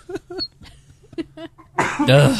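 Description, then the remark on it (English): A loud, harsh cough erupts right up against the microphone, a broad rough blast closing out the moment after a few short, quieter vocal bursts. “Y'all have cough buttons for a reason, okay?”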